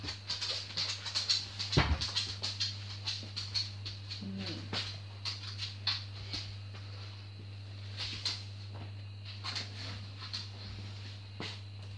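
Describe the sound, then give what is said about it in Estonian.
A dog shuffles and moves about in a house, letting out soft, high whimpers among scattered rustling bursts, over a steady low electrical hum. “mine eest ära koer”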